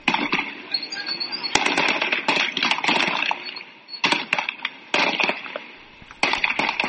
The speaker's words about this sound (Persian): گزارش‌ها حاکی از وقوع درگیری میان شهروندان معترض و ماموران نیروی انتظامی است. در برخی ویدیوهایی که در شبکه‌های اجتماعی از جمله صفحه توییتر روزنامه مردم سالاری منتشر شده، صدای تیراندازی شنیده می‌شود.